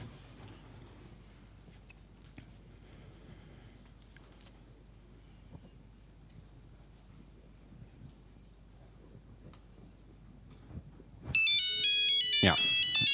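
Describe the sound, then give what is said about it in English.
After a stretch of quiet, noisy background, a mobile phone abruptly starts ringing with a loud, melodic electronic ringtone on an incoming call, once a jamming denial-of-service attack on it has been stopped; the ringing carries on to the end. “And yeah, so the call is dropped again, and once I stop the attack again, the phone should be reachable again, and it is.”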